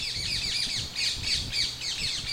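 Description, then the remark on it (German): Harsh, shrill squawks of rose-ringed parakeets repeat in quick bursts, several birds calling over one another against a low background rumble, with no voices. “Der Halsbandsittich ist eine Papageienart, die ursprünglich nur in Asien und Afrika heimisch war.”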